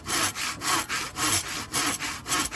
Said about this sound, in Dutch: Zaag. Ja, inderdaad, de zaag.